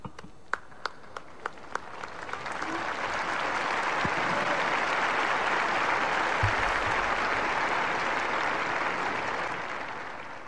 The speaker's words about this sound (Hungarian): A mai napon is a szokásos taps viharral ér véget az általános audiencia a vatikáni Szent Péter téren.